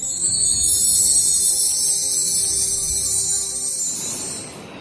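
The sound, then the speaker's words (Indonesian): A steady, hissing wash of ocean surf rolls loudly onto a beach, holding for several seconds before receding and fading, with a faint tonal hum underneath. “Biur, ombak berdebur.”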